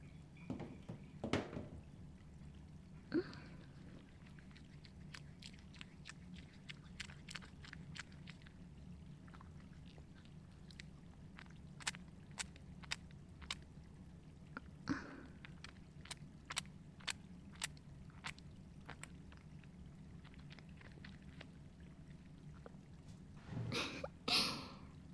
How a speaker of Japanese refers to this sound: では、ご主人様。お体、洗っていきますね。少々お待ちください。今、ボディーソープを泡立てますから。